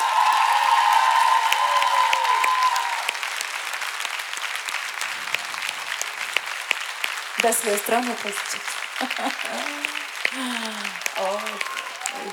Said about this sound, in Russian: Спасибо вам большое за ваши аплодисменты. Они действительно для меня есть счастье, награда. Мой хлеб, моя прана. Я искренне вас благодарю.